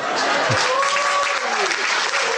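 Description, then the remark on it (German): Dense, steady audience applause, partly recorded from a livestream, fills the whole moment, a broad crackling wash of clapping hands, with a faint tonal whistle or voice gliding through the middle of it. “Den Applaus, den nehmen wir noch eben mit.”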